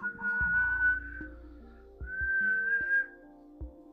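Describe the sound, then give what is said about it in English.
A person whistles two long, slightly rising notes separated by a short pause, imitating the whistling call of the Lucheza creature, clear over a low, steady background hum. “Very much like a human whistling.”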